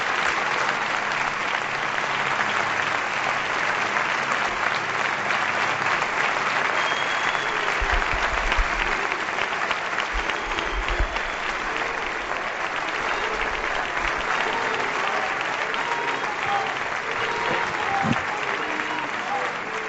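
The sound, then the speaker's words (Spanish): A crowd of about 12,000 to 13,000 people applauds continuously with dense, sustained clapping and cheering for the full duration, loud and steady, with faint voices mixed into the roar, as the rear door of a car is closed and the car leaves. “Van a cerrar ahora mismo la puerta trasera de ese coche y se han vivido momentos de muchísima emoción y ahora sí, se cierra la puerta del coche y esta es la última ovación del mundo.”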